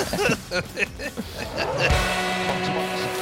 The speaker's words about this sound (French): Meilleur jingle des podcasters RMC